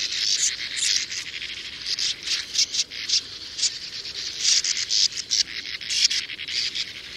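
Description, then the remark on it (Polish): A sand martin at its nest burrow gives a steady stream of identical grating, crackling notes, dry and high-pitched, in rapid uneven bursts for several seconds with brief gaps. No voices. “Przy samej norce wydaje zaś strumień jednakowych zgrzytów i trzasków.”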